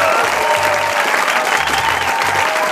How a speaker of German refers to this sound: Ein Applaus für